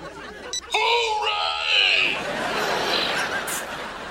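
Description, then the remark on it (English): A Screaming Mel doll toy lets out a loud, angry yell that erupts suddenly and holds for about a second, then trails off into a rough, noisy shout that lingers to the end. “But did you guys get a Screaming Mel doll?”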